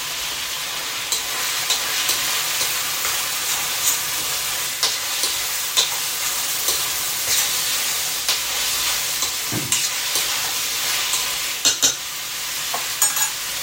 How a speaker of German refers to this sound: Und auch bleibt dabei beim Anbraten, nicht, dass es anbrennt. Die 3 Minuten sind gleich vorbei.